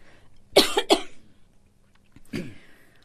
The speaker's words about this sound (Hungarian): kicsit leállhatnánk, hogy köhögjek.